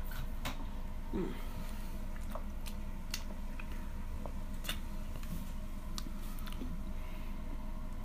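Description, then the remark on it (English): Someone drinks water with a series of wet gulps and swallows, spaced irregularly over steady low background noise, with no talking. “Maybe I should drink some more water.”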